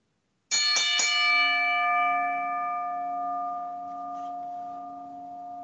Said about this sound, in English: DPP, ring the bell.